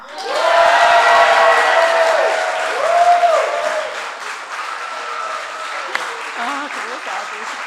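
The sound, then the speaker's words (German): A live audience at the Evangelical Church Congress (Kirchentag) in Nuremberg, Germany, cheers and claps loudly, with whoops and shouted voices over dense applause that gradually eases but keeps going throughout. “Leute, macht euch doch bitte mal bemerkbar.”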